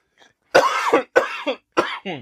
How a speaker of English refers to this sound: That was an old man laugh. Turned into a cough.